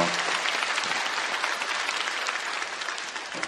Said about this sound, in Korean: 우리 주영광 찬양대의 귀한 찬양, 또 여러분의 귀한 예배와 또 섬김을 통하여서 우리 영광 받으신 하나님 앞에 다시 한번 감사와 영광의 박수 올려드립니다.